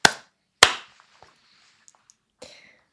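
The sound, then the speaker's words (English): Two sharp, loud hand claps about half a second apart, made after a countdown to sync audio for a recording, followed by a few faint clicks and a softer third clap near the end. No talking. “Okay, so we'll clap again.”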